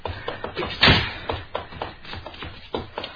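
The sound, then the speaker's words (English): A series of sharp, muffled cracks from a gun being fired at cans on a fence, one louder blast followed by several fainter pops at irregular intervals, sounding distant and somewhat dull. “That's where your shots came from.”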